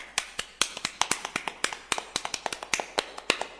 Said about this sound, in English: The curtain fell. There was a long silence. Then Henry's parents clapped.